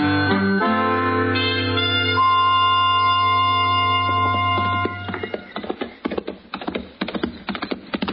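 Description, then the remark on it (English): A sustained musical chord fades out, then the hooves of the horse Chester is riding clip-clop in a quick, fairly steady rhythm of sharp knocks, moderately loud, with no talking. “That's a good-looking horse Chester's riding, man.”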